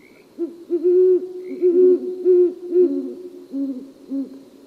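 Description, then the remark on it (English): A female and male owl pair hoot together in a courtship duet at night, one voice slightly higher than the other, their deep, syncopated, overlapping hoots running continuously for several seconds, clear with no talking. “A female and male pair often join in a duet to begin their courtship. It's a nighttime concert like no other.”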